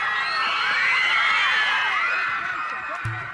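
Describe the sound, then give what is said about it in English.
A dense crowd of hundreds of fans at an airport screams and cheers for Prince as he arrives, a continuous loud wall of overlapping high-pitched shrieks and whoops that stays steady before easing slightly at the end. “Hundreds of people gathered at the airport where he landed, and in the middle of his interview with MTV, he ran over to the screaming crowd and tossed his black suit jacket into the mix.”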